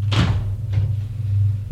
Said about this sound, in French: On a sonné à la porte d'entrée. Elle ouvre.